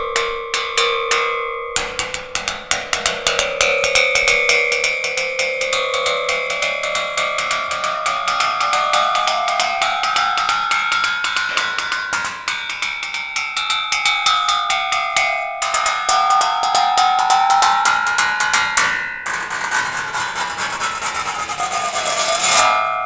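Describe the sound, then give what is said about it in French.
A large 19th-century two-man crosscut saw, made for felling trees, rapidly struck with ski poles, giving a loud metallic ringing whose pitch bends and swoops up and down as it is flexed, with brief gaps and no voices. “Ça marcherait pas parce qu'elle est trop épaisse, mais moi je tape avec des bâtons de ski, donc pour ça ça marche.”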